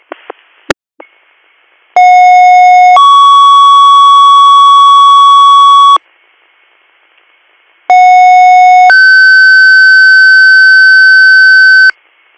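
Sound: radio dispatch alert tones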